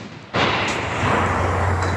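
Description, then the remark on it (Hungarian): A ceremonial rifle salute volley, fired to honor fallen soldiers at the end of a commemoration, fires as one sudden, loud crack after a brief quiet, followed by a long, broad rumbling wash of sound that lingers without fading much. “Mint minden megemlékezésünk végén, most is díszlövéssel tisztelünk minden hősi halált hat katonánk előtt.”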